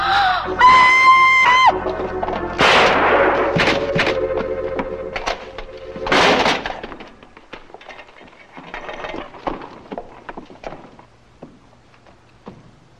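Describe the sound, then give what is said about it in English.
A woman's shrill, sustained scream rings out loudly at night for a couple of seconds, followed by a series of bangs, crashes and clattering noises that fade to quieter rustling. “Her scream filled the night.”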